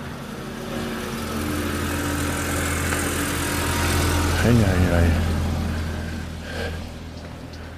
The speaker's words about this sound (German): Meine Güte, ein Verkehr.